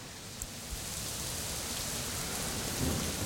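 Steady rain hisses and patters heavily, with a low rumble of thunder rolling underneath and swelling near the end; no voices, just the continuous wash of a storm.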